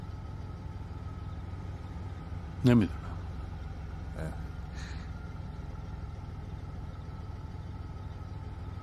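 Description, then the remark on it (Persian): An antique car with its original 500 engine idles with a steady, low rumble throughout, while a man briefly speaks over it and a short sharp sound cuts in once. “اوف ای والا جب ماشین عتیقه ایه. چه موتوری روشه؟”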